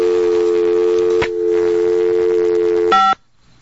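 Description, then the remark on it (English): A steady telephone dial tone hums for about three seconds, broken once by a short click. Then a brief, different tone burst sounds, like a busy signal starting, and cuts off abruptly after a wrong number was dialed. “Oh, I dialed the wrong number.”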